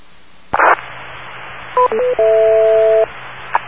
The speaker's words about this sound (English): Repeater, time out.